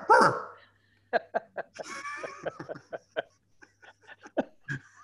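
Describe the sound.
A person loudly imitates a dog as part of a knock-knock joke, starting with a big yelp-like bark and following with a rapid string of short yapping barks and whimpers.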